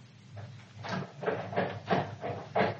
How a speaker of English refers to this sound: No. No one there. I'll try the door.